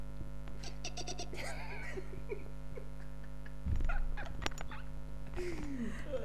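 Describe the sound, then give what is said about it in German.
A person imitates a guinea pig with a run of high, squeaky chirps and wheeks over a steady electrical hum, with a short bump of handling noise midway. “Ich kann das Meerschweinchen. Ja, mach mal. Komm, mach mir das Meerschweinchen.”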